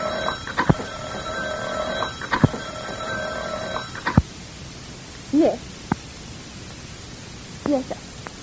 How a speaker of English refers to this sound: Now, the telephone rings, and Sylvia comes to the phone.